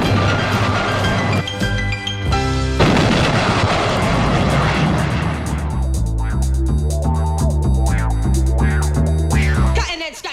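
Loud, sustained barrage of gunshots and heavy booms blending into a dense roar, with droning, aircraft-like tones running underneath. No one speaks.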